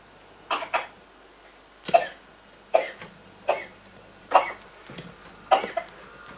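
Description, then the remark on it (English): A person coughs repeatedly, about six or seven sharp, dry coughs in a row, some in quick pairs, with brief pauses between them and no talking. “Okay, that's enough coughing”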